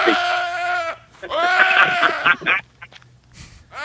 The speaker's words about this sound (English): It sounds so similar to the sheep. It sounds so similar, almost identical.